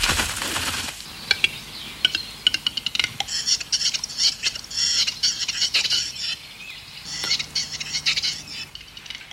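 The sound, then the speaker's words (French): A western capercaillie, Europe's largest forest bird, in courtship display: a string of dry, knocking clicks building toward a popping note like a bottle being uncorked, followed by bursts of raspy, scraping sounds over a quiet forest background. “C'est typique de la parade de l'oiseau forêt. J'ai nommé le grand tétras, plus gros oiseau forestier en Europe.”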